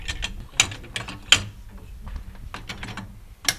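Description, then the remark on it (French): The first winding of a mechanical clock's gear train: a run of crisp, irregular ratchet clicks, a few sharper louder snaps standing out, over a low grinding rumble. No one speaks. “Premier remontage, attention.”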